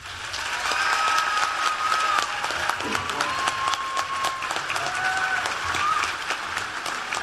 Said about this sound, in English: President Obama getting a standing ovation from the crowd, and now he'll deliver his remarks.